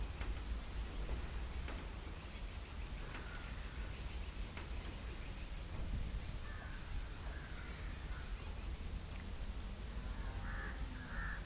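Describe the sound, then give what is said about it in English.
Several harsh crow caws ring out, spaced irregularly over a steady hiss of outdoor background noise, with no one speaking. “Now the birds, crow, are trying to take you out of your boundary.”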